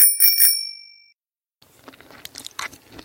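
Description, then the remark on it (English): A bicycle bell rings sharply twice in quick succession, its bright metallic tone fading out over a second, followed after a pause by soft crunching and chewing sounds. “The goat rides a bike.”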